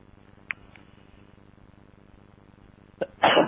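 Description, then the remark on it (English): After a quiet stretch with a faint click, a single sharp sneeze bursts out near the end, a brief intake followed by a loud, breathy explosion. “Bless you.”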